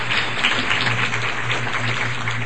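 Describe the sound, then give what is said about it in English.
An audience at the 9th Annual Sunstone Symposium at the Marriott Hotel in Salt Lake City, Utah, claps steadily for Lynn Whitesides, a dense, even wash of many hands with no individual claps standing out, sustained at a fairly loud level throughout with a faint low hum underneath. “That applause is for Lynn Whitesides.”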